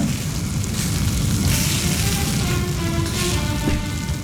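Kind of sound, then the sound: food or drink, bacon sizzling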